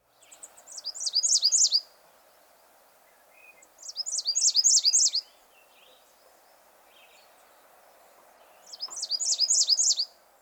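An American Redstart sings its two-noted song, three high, thin bursts of rapidly repeated paired notes, each lasting about a second and a half, separated by pauses over a faint, steady background hum.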